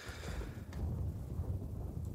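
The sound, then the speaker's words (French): A clap of thunder rolls as a deep, sustained rumble for a couple of seconds, with a faint hiss like rain at the start and no voices. “Avez-vous entendu? Il y avait un coup de tonnerre.”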